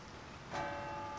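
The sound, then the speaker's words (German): A church bell striking the hour in Munich on a summer evening: a single stroke rings out and hums on with a sustained, shimmering tone over a steady background hiss. “Eine Glocke schlägt. 8-mal.”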